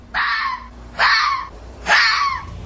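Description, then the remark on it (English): Three harsh, raspy screams from foxes mating, each lasting about half a second and evenly spaced. They are loud and strained with a hoarse, wailing edge, and no voices are heard. “The soothing sounds of foxes mating reassures all that fox numbers are on their way back up.”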